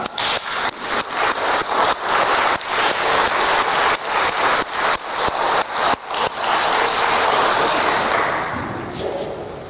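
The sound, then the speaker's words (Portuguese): An audience claps for a celebrating couple, a steady, dense, crackling wash of applause that holds strong for several seconds before gradually tapering off at the end. No voices are heard. “Otra vez queremos mostrar nuestra felicidad y alegría por Roberto y María Elena dándoles otra vez un aplauso.”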